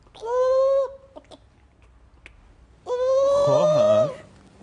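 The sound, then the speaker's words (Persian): A person's voice imitates a clucking chicken with two loud, drawn-out calls, separated by a pause of a couple of seconds holding a few faint clicks. “تازه من صدای مرغ خروسم بلدم در بیارم.”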